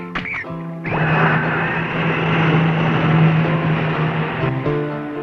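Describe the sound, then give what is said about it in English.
A loud, steady mechanical roar of a helicopter truck lifting off, starting abruptly after a short tonal blip and holding a droning hum for several seconds before cutting off. “Hey, that's mighty handy, boss. A helicopter truck.”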